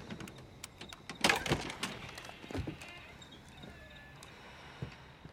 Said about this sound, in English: With our view shaking erratically, we climb the home's exterior to the upper terrace. We face a door and carefully open it.